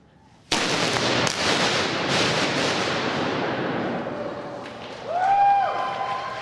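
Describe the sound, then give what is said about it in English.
After a moment of quiet, the artist Chai lights a fuse and a sudden, loud gunpowder explosion bursts on canvases under a cardboard stencil in a room, erupting into a long crackling, hissing roar that slowly fades, with thin rising whistle-like tones near the end. “He lights a fuse.”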